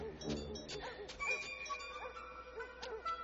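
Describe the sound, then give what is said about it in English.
A doorbell rings repeatedly with bright, metallic chiming tones that overlap and ring on, heard fairly quietly over faint background murmur. “I'm just going to keep knocking. I'm going to keep ringing the bell.”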